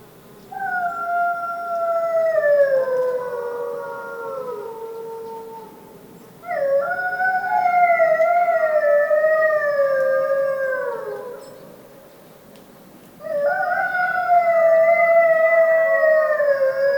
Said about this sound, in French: C'est une rencontre que je n'ai fait que trois fois depuis 10 ans de terrain. Le chant d'une meute de loups.